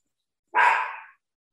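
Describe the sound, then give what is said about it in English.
A single short, high-pitched bark from a 10-week-old puppy, a sharp yelp that trails off over about half a second, with silence before and after. “I think your dog's a ventriloquist.”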